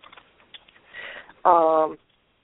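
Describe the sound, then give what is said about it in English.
Soft, irregular computer keyboard typing clicks patter for about a second, then a brief, loud humming tone cuts in and stops abruptly. “Okay, let's put half of them up there right now while I'm typing the other half.”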